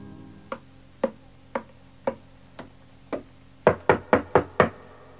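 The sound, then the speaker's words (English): Knuckles rap on a table in imitation of a door knock: six evenly spaced, moderate taps, then a quicker, louder burst of five close, crisp knocks. No voices. “Or rapping on a table to imitate the noise of footsteps and someone knocking at the door.”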